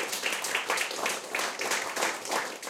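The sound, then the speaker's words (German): Audience applause, a steady wash of many hands clapping with a dense, crackly texture and slight surges in intensity, sustained throughout without speech. “Und jetzt gerne Applaus.”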